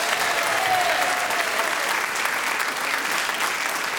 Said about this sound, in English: But only 3 points ahead was Clement Freud, so we say, Clement, you are the winner on points this week. Another round of applause for Clement.